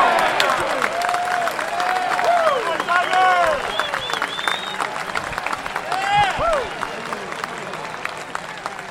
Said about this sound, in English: Woods would go on to par the first, and the crowd reaction was one of appreciation and anticipation for what the day might hold.